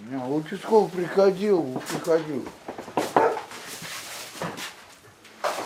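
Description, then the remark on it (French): A dog barks and whines in a run of wavering calls, followed by a few sharper bursts and some rustling. “T'as entendu le chien ?”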